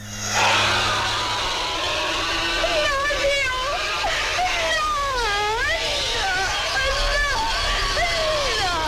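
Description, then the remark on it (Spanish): An alien's shrill, unearthly scream from a 1976 horror film wavers up and down in pitch for several seconds, loud, over a steady low rumbling background. “los extraterrestres, en este caso, que se van metiendo en los cuerpos de las personas, te señalan con el dedo y lanzan un grito muy desagradable.”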